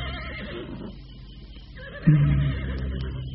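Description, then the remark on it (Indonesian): A white horse whinnies in a drawn-out, wavering call that rises into a louder, sharper burst near the end, with a low rumble underneath and no voices. “Pasti hanya binatang lumrah. Kuda biasa, seperti kuda-kuda yang lain.”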